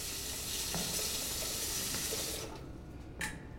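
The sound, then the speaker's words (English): A steady, hissing rush of water pours into a teapot in a kitchen for about two and a half seconds, then stops, leaving quiet broken by a single brief clink. “The blonde woman fills a teapot with water.”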